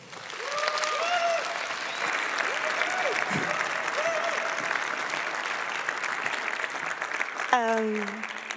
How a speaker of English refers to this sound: I'm really impressed, and I hope you are too. Please give a very, very warm applause to